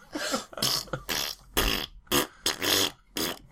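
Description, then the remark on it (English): A voice blows a string of loud, buzzy mouth-fart raspberries in a marching rhythm, about seven short bursts with brief gaps, imitating a brass march tune. “I can't believe you're actually doing the imperial farts.”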